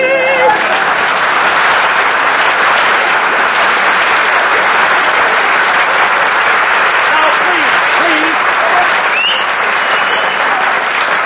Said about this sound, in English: Applause, please.